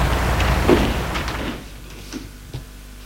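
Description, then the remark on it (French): A door is pulled shut by an old man after a woman enters, with a rough, sweeping rub that fades after about a second and a half, followed by two soft, sharp clicks of the latch. No one speaks. “Elle entre, il ferme la porte.”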